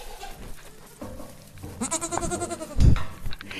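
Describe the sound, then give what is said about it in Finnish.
A goat bleats insistently from a corner of the pen, its wavering, pleading cries rising over a low rustle of goats munching hay and shuffling, with a heavier thump near the end. “Ahneudesta puheen ollen, tuolta nurkasta kuuluu kyllä nyt niin kerta kaikkiaan anova mäkäytys, että eiköhän me mennä käymään siellä.”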